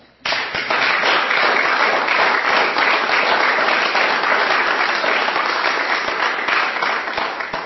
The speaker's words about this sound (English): Well done, my friend. I suggest a round of applause.